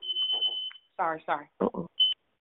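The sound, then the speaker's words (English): A shrill, high-pitched electronic beep holds for most of a second, then a short voice breaks in before a second brief beep sounds clear. “That beep was to get y'all's attention.”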